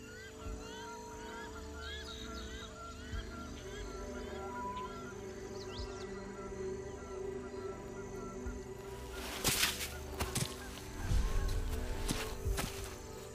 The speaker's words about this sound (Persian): صدای دریاچه.